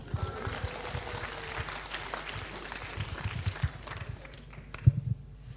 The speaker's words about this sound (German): Wir danken Ihnen. Applaus.